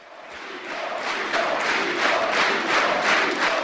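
A loud, sustained roar of cheering from FDP party supporters celebrating party leader Guido Westerwelle with standing ovations on the evening of a German federal election, swelling in waves with shouts and whistles mixed into the dense wall of sound, no single voice standing out.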